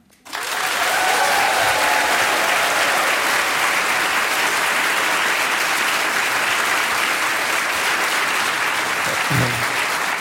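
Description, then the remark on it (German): Sustained applause from an audience at the show Eat, Read, Sleep, welcoming a guest. It starts abruptly and holds steady and loud for about ten seconds, a dense wash of clapping hands with a few faint voices mixed in. “Reichte dir der Applaus oder möchtest du nochmal?”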